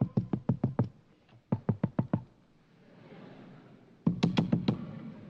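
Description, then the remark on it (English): Loud knocking on a door in three quick bursts of about five raps each, separated by short pauses, with no voices. “Once he found out what was happening, he hurried up back to the great white father's mansion, knocked on the door.”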